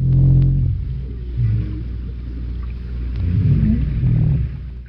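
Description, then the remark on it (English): Deep, low moans from a North Atlantic right whale, recorded just off Martha's Vineyard, Massachusetts, by the Woods Hole Oceanographic Institution, rise and fall over a steady underwater rumble, a few drawn-out tonal calls with wavering pitch and no voices. “Deep Moans here, North Atlantic right whale.”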